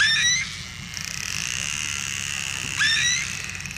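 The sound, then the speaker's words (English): A dolphin pod in the ocean, heard through a towed hydrophone: a dense, rapid buzz of clicks runs throughout, while high, rising whistles sweep upward at the start and again near the end. No voices. “The clicks all sound like a Geiger counter. And then you'll hear, it almost sounds like a radio trying to tune in with all the whistles and the clicks going on.”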